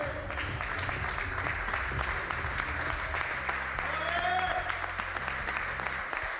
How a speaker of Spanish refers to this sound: Esta escena ha sucedido esta mañana en el gimnasio del Barça. Se abría la puerta y aparecía un chico con muletas. Era Gavi. Iba recibiendo el abrazo de unos y de otros hasta que han roto en un aplauso.